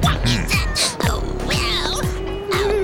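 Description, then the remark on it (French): Several pet cats, about to be taken along on a trip at a boarding gate, meow in quick succession, overlapping high-pitched cries rising and falling over a steady background hum, loud. “Madame, c'est pas marqué sur votre billet que vous ayez le droit de partir avec vos chats.”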